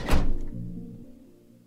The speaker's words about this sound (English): One of them shrieks as the van door slams shut.